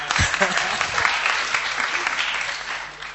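An audience claps steadily for a few seconds, a dense patter of many hands at an even loudness, with a few low thumps near the start.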